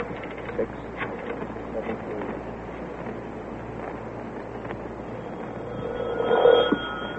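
A telephone is dialed to call the YWCA, with scattered clicks over a steady background hiss, then a brief ringing tone rises near the end, moderately loud.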